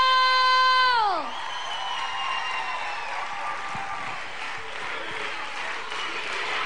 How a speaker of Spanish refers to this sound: ¡Fuerte el aplauso!